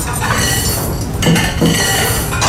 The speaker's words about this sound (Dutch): gaan we eerst even proosten op jou, hè? Je gezondheid. Oh, geweldig. Zullen we aanstoten? Alsjeblieft.